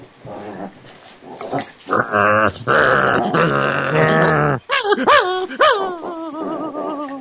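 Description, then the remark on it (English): A female dog growls and grumbles in long, voiced, rumbling bursts that rise into higher whiny yelps toward the end, with no talking over it. “She wants to have a growl.”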